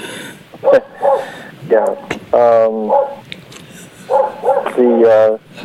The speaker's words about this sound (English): Now, there's a dog outside.